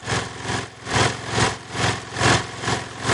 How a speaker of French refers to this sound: Un manque de gaz, ça. Ça, c'est quoi? Un manque de gaz, c'est une queue de marche, ça. Ben non, c'est ma souffleuse que je viens de partir.